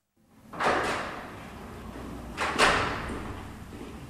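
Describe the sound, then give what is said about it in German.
The door of a Zurich contact point for undocumented migrants opens and then closes a couple of seconds later as people pass the door handle wordlessly. Each movement is a short rushing clunk over a low, steady background, with no voices. “Menschen verschiedener Herkunft, verschiedener Muttersprache sitzen vor der Tür des Spatz, schweigen sich an, geben sich wortlos die Türklinke in die Hand.”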